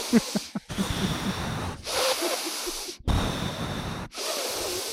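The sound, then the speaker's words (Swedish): A voice imitates a film's main character breathing heavily through the nose: loud, airy huffs repeating about once a second, with short gaps between each long exhale and no talking. “Samtalen flödar inte på, utan du har så här, någon ställer någon fråga och sen står liksom huvudpersonen och bara andas genom näsan.”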